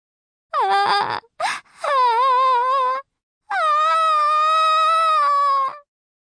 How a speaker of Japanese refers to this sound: 俺は、隣で頭を抱えて叫び声を上げているアクアの方を振り向いた。おい、うるさいぞ。